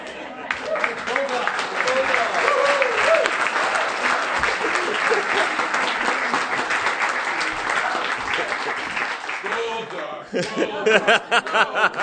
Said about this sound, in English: I'm going to give him 2 seconds to tell us what he's going to do with this, and then I want a lot of applause for him.